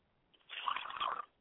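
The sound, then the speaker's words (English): A short pour of liquid as a libation to the south while calling on ancestors, a steady splashing trickle lasting under a second that swells slightly near the end before stopping, fairly quiet, with no voices. “And finally, I pour libations to the south, and I say, Ashe.”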